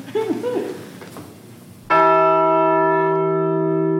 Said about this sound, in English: and in the basement, a replica of the Liberty Bell. It's very loud if you ring it. Very, very, very loud. I kind of want to hear it.